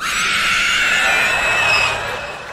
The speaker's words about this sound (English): And I'm pretty sure Stephen Miller only communicates in demonic screams.